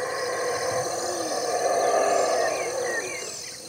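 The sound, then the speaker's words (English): A deep, continuous roaring chorus of howler monkeys hidden in lush trees rises and swells, with faint bird calls and forest ambience layered over it. “And that sound in the background? Those are the howling monkeys hiding in the luscious trees.”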